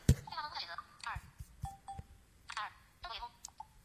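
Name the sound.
mobile phone dialing tones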